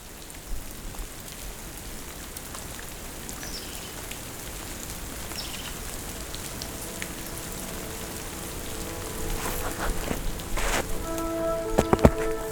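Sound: water droplets dripping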